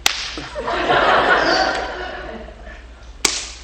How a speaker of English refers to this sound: Hey, I need a man. I need somebody. I need you to slap me. You have to do this.